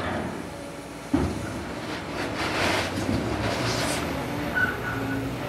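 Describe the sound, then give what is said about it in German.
A long row of open freight wagons filled with gravel rumble steadily at the rail yard of the Berliner Hafen- und Lagerhausgesellschaft in northwest Berlin, a broad, continuous noise with one sharp metallic clank early on and a faint squeal near the end; no one speaks. “Der Logistiker Klaus Lichtfuß steht vor einer langen Reihe offener Güterzugwaggons, die mit Kies gefüllt sind.”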